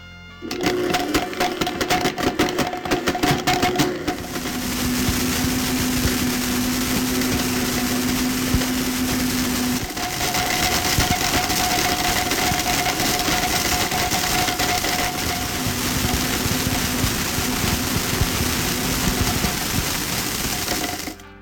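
A Blendtec Total Blender grinds a puzzle: a loud, steady motor roar with hard rattling clatter at first, then a smoother whine whose pitch shifts a few times before stopping.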